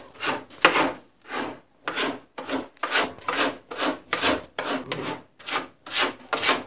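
The cat Kitty Cat Carlotta scratching in her litter box after doing her business there: about a dozen quick, dry, raspy scrapes in an uneven rhythm, each a short hissing stroke of moderate loudness with brief pauses between, no voices.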